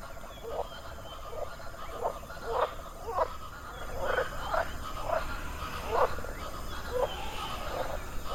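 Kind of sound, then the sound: animal, toad croaking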